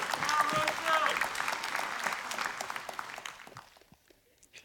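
An audience breaks into applause, dense clapping with a few cheers and whoops on top, holding strong for about three seconds before thinning into scattered claps and fading out.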